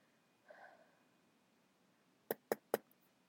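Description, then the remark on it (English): Three sharp knocks on a door in quick succession, clear, following a brief soft breathy sound in otherwise quiet surroundings; a pizza delivery is at the door. “Who's at the door?”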